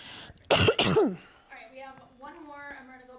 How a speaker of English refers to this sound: I'm going to cough.